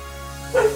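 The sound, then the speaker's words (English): A single short, sharp bark from a female dog, breaking out over a steady low hum. “Dog's on the podcast.”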